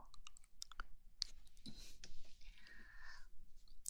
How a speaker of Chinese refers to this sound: 等会儿啊，我把我家的钥匙啊给你吧。以后呀，馋了就来找。